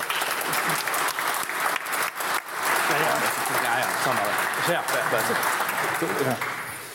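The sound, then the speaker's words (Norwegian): An audience applauds Alfred Finnbogason steadily for about seven seconds, a dense, loud wash of clapping with faint voices mixed in, tapering off slightly at the very end. “Stor applaus til Alfred Finnbogason.”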